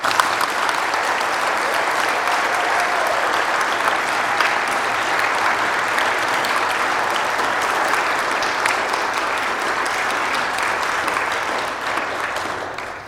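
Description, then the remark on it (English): A large audience applauds the teachers steadily for about thirteen seconds, a dense wash of clapping that holds at an even level before tapering slightly at the end. “Why don't we give them a round of applause?”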